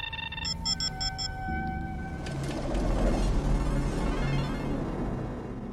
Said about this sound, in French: Voilà, on entend déjà le son typique du Minitel, hein. C'est-à-dire qu'on était quand même dans les premières communications numériques, mais par téléphone à impulsion, comme nos premiers modems.